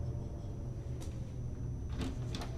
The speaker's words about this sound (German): Max schließt die Tür auf.